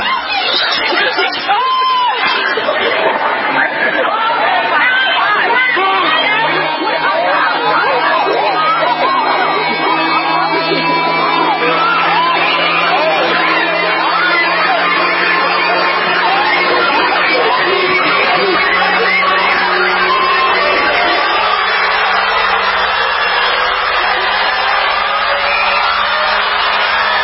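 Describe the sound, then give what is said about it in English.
A dense, loud crowd roars continuously for the whole stretch, shouting and clamoring over a wall of overlapping voices, as Black Friday shoppers surge into a Walmart store, with a man crying. “Some massive hordes of zombies pouring into a Walmart.”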